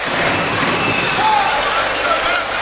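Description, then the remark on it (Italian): A basketball being dribbled on a court during a professional game between Scafati and Pistoia, its bounces buried in steady crowd noise, with a few high sneaker squeaks and faint voices in the background. “Clyston in avanzamento, il palleggio contro Cinciarini, prova sfondamento su Stewart, palla di nuovo a Scafati, quarto fallo per lui.”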